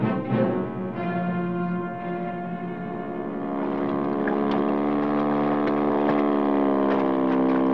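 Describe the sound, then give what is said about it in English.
A motorboat engine drones steadily on the water at night, a continuous hum with a rich harmonic tone that grows slightly louder and brighter partway through, with faint splashing. No one speaks. “Can we get a boat and go over to Craven's Point?”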